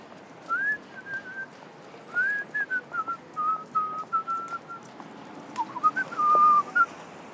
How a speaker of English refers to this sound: Once upon a time, she liked my whistling.